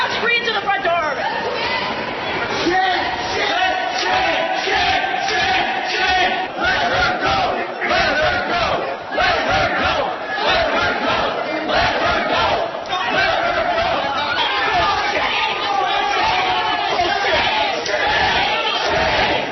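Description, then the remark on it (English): A crowd of protesters shouts and yells at once as they block elevator doors from closing and a state patrol officer physically forces them back, a loud, chaotic mass of overlapping voices that never lets up, with sharper cries bursting out over the steady roar. “This is what it sounded like as protesters blocked the elevator doors from closing and a state patrol officer physically forced them back.”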